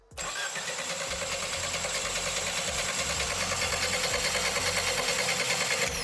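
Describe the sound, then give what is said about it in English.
An engine with oiled main caps spins at low speed after a brief start, its crankshaft splashing oil around the block: a dense mechanical drone with rapid rhythmic clatter running evenly throughout, fairly loud with no voices. “Wanna give the engine a spin?”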